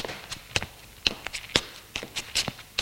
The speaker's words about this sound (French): Entend des pas dans l'escalier. Elle va vers l'escalier. Il est sombre et on n'y voit presque rien.